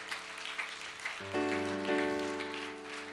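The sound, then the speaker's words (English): An audience applauds steadily for the children, a dense crackle of many hands clapping, while sustained organ-like chords enter partway through and swell beneath the clapping. “Let's put our hands together for the children. Come on, let me hear. Let me hear the applause.”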